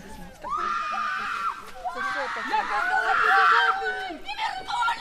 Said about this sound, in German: Was wir da auch erlebt haben, während wir diese Interviews gemacht haben, während ich diese Interviews gemacht habe und mit den Angehörigen gesprochen habe, gab es plötzlich einen, ja, herzzerreißenden Schrei.